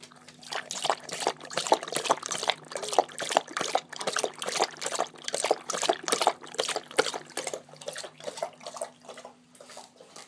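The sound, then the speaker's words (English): Rapid, rhythmic wet splashing and slurping of a happy dog lapping water, steady for several seconds, with a faint low hum beneath and no talking. “There's nothing like the sound of a happy dog.”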